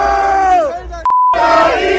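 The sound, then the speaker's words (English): A large crowd of rival team's fans chants and cheers loudly together, the voices sliding downward in pitch, broken briefly by a steady electronic beep before the roaring chant resumes. “Again, just so you know, these are the people we don't want at our ballpark on Saturday night. Listen to them.”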